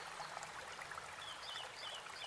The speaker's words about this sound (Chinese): 清澈的水潺潺流淌着。